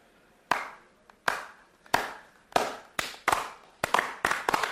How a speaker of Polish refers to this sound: Kamera na prezesa, jak klaszcze. Jest nieźle.